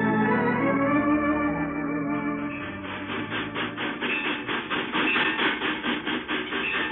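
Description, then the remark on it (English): A train runs along the rails with a steady, loud rumble that settles into a fast, regular clickety-clack of wheels over track joints, with no voices. “How do you like riding on a real fire horse?”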